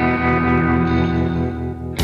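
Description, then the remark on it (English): An eerie, heavily distorted electronic signal drones steadily with layered buzzing tones and echoing warble, loud and close, then breaks off into a sudden burst of hiss at the very end. “There's no reason that Venus shouldn't radiate impulses. I don't mean the static. Can't you hear it? The other thing?”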